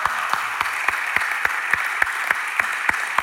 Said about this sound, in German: Boah, es ist einfach, ich finde, diese Leute haben sich einen richtigen Applaus verdient, die hinter den Kulissen sind. Hey, das ist für euch.